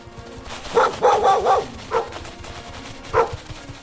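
A pack of sled dogs pulling a sled in the Arctic barks in quick, overlapping bursts, first a dense cluster, then a couple of separate barks after short pauses. The barking stands alone with no talking.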